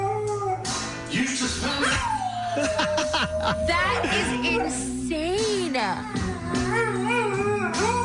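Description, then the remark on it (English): A dog howls in long, wavering, sliding tones along to a song played on an Alexa speaker, fairly loud over the steady background music, with people talking and reacting now and then. “There's no better way to start off a Wednesday than hear the dog sing.”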